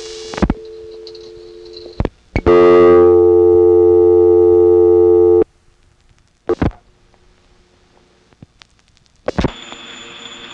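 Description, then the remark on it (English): A telephone ringback tone: one loud, harsh, buzzy tone lasting about three seconds, preceded by a fainter steady hum and sharp line clicks, with more clicks and crackle afterward. No one speaks. “We didn't get a good 234 ringtone from Harrisonburg.”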